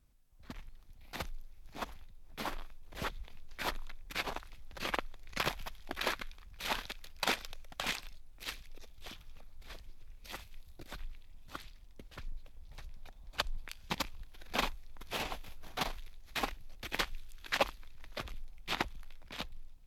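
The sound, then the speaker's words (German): Recorded footsteps of many men, women and children from England, Italy, Austria and Finland crunch and tap across wood and stone floors, iron stairs, gravel paths, icy snow, mud, shallow water and cobblestones, a continuous rhythmic walk with crisp impacts over twenty seconds and no voices. “Grundlage der Musik sind die Schritte sehr vieler verschiedener Menschen aus unterschiedlichen Ländern.”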